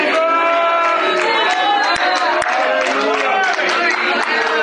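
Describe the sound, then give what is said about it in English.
A church audience claps hands, the hand clapping coming from Black women in the audience, a few sharp claps standing out over a dense, steady wash of many voices singing or chanting together at a loud level. “See my black sisters right away, they got that hand clap.”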